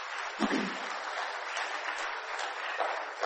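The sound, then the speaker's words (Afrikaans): A church audience claps steadily in thanks to the CVV committee and the decorating team, a dense, even patter of many hands that holds at a fairly constant level for a few seconds, with no voices over it. “Kom ons gee vir ons CVV bestuur en ons dekorspan 'n lekker hande klap.”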